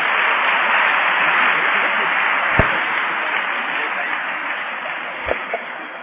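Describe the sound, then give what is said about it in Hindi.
A large audience claps steadily and loudly for several seconds, a dense, continuous wash of applause with a couple of dull thumps partway through and no one speaking, applauding as a bouquet is presented to BapDada. “जोर से ताली बजाते रहेंगे आप।”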